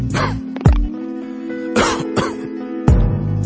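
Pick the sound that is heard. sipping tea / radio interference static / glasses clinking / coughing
coughing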